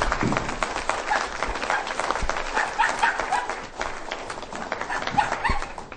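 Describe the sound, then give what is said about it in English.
Steady applause fills the space as Representative Earl Blumenauer is introduced, with a dog barking a few times somewhere within the crowd noise, its yaps partly buried under the clapping. “Oh, and one dog.”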